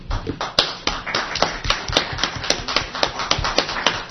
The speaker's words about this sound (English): The applause should go out to the veterans, not to us.